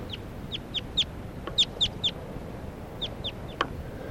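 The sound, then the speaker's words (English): Wild bird calls: about a dozen short, high, downward-sliding chirps in small irregular clusters, clear above a steady low rumble of background noise, with no voices. “It's the wild bird. White calls.”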